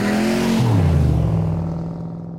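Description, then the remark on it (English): A loud muscle car engine roars, its deep growl dropping in pitch partway through as it shifts, then rumbling steadily and fading slightly at the end. “let's say in the 50s, so in the 50s, it was all about muscle cars. It was all about the loudest car you could have, Mustangs, Corvettes that were really, really loud.”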